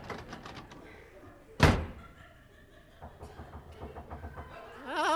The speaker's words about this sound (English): Well, why don't you knock? I'll let you in. All right.